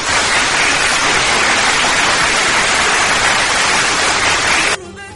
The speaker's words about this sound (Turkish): Alkışlar size de geliyor.